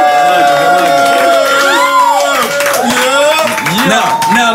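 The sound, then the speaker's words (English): A live audience cheers and hollers loudly for Nick Cannon, many voices whooping and yelling over one another in a dense, continuous roar, with scattered claps mixed in. “Let's represent for motherfucking Nick Cannon in the building. Make some noise!”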